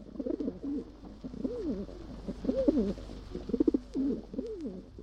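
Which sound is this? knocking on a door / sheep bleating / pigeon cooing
pigeon cooing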